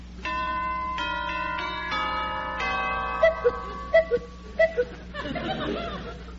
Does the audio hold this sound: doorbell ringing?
yes